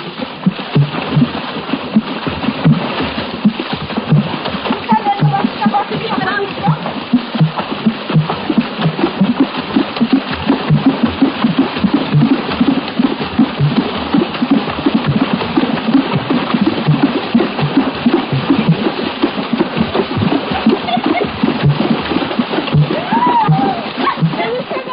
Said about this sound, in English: the Gabun, the women of a village dance hip-deep in a nearby pool. While dancing virtually naked, they beat the water with their cupped hands, thereby producing the different rhythmic tones you hear. Of necessity, no water drum passage is a long one.